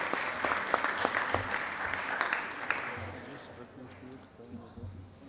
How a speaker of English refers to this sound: I'd like to welcome students from my district from Foothill De Anza Community College and San Jose Evergreen Community College, and they're right up there. Members, please give Senator Alquist, the guest, a round of applause.